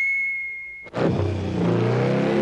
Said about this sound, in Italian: Con un ruggito, il motorino partì in direzione della scatola volante.